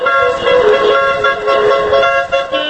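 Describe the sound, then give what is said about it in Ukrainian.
Several car horns honk together in a sustained, overlapping blare, loud, with engine rumble underneath as about fifteen cars decorated with Crimean Tatar national flags set off on a motor rally in Crimea marking Crimean Tatar Flag Day. “і півтора десятка автомобілів, прикрашених кримсько-татарськими національними прапорами, вирушають у дорогу.”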